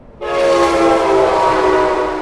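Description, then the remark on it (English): A train horn blares loudly, a sustained, harmonic blast held for about two seconds over the rumble of a passing train, with no voices. Recorded just a few feet from the door of a home beside the train line. “I asked because I live near the same train line, about 30 miles north, and here's what it sounds like at my place in the middle of the night.”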